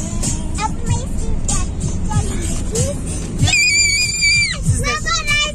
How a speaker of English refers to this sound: Gosh. Okay, stop screaming